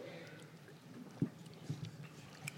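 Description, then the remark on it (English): A quiet sip of Grapico, a Southern sparkling grape soda: a few soft wet mouth clicks and a small swallow, spaced out over a couple of seconds with no talking. “This is a sparkling grape soda, a southern thing for 100 years, it says, which is nice. I'm going to have a little sip of this.”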